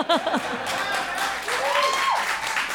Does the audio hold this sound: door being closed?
no